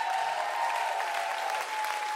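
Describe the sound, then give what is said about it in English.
Steady audience applause for a performer's set on Radio 2, a dense, even patter of many hands clapping at once, sustained and fairly loud throughout with no voices standing out. “A big round of applause.”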